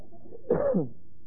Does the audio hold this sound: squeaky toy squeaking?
no